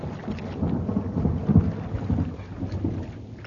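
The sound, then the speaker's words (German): Low, rolling thunder from an approaching thunderstorm rumbles continuously at a mountain inn, swelling slightly in the middle, with a soft hiss of rain beneath it and no voices. “Denn angesichts des nahenden Gewitters sieht es der Wirt nicht so gern, dass sich die Gäste im lauen Wasser tummeln.”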